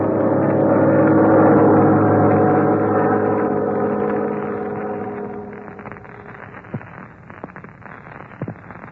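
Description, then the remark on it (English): The engine of a black-winged plane, one of Ivan Shark's planes, drones steadily with a rich, buzzing hum, loud for the first few seconds before gradually fading lower, with a few faint clicks near the end. “Look, Red, a black-winged plane.”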